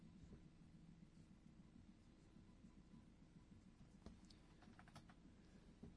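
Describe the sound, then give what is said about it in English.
Quiet, irregular clicking of keys on a computer keyboard during the Scott Horton Show, over a low background hum, with a few sharper taps near the end and no one speaking. “All right, sorry, no more typing during the damn show.”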